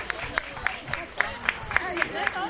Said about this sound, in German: Meine sehr verehrten Damen und Herren, einen ganz großen Applaus für musikalisches Kabarett mit Uta Servoschok und Thomas Stöhl.